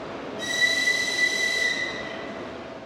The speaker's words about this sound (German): Ein früher Donnerstagmorgen am Kiewer Hauptbahnhof. In dem wuchtigen Bahnhofsgebäude aus der Sowjetzeit ist viel los. Menschen eilen zu den Gleisen oder sie warten darauf, dass ihre Angehörigen ankommen.